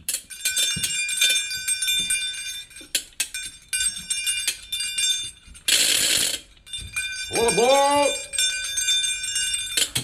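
Small bells, played as instruments, jangle and ring repeatedly throughout, bright, broken by a short burst of rustling noise and a brief wavering vocal sound near the end.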